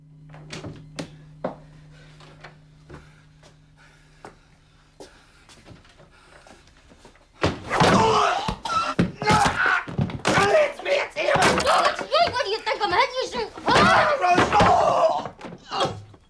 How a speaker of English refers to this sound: Downstairs, he opens the funeral parlour door.